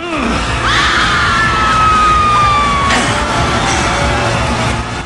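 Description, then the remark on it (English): A man screams in terror, his cries rising and wavering over a loud, chaotic wash of noise that fills the whole few seconds without letup. “Scream. Come on, scream. Scream louder.”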